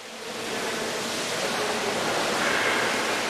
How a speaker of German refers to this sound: Und auch die große Sprudelfontäne in der Vridelny-Kolonnade schießt wieder spektakulär in die Höhe, nachdem das Leitungssystem erneuert worden ist.